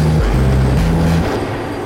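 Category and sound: vehicle, bus arriving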